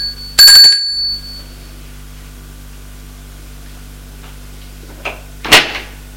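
household object, doorbell ringing

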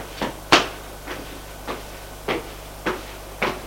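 household object, door opening

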